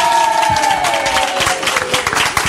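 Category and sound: crowd, audience applauding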